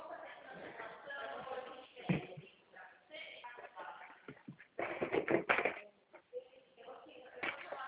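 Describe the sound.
Someone rummages to get a pen, with a series of irregular clicks, taps and shuffling clatters, loudest in a few sharp bursts toward the middle, while faint voices murmur in the background.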